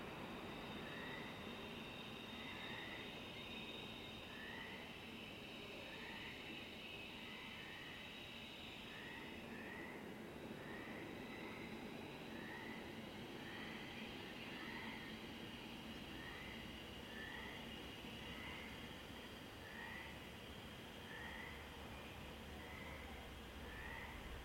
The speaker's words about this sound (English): A train slides into a tunnel of blackness below. It continues on down the coast.